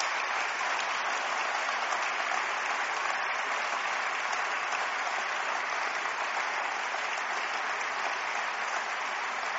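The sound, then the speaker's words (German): A crowd applauds steadily for nearly ten seconds, a dense, even wash of clapping hands that holds at a constant level without any speech over it. “Ich glaube, das ist großartig und das verdient auch unseren Applaus hier und unseren Respekt.”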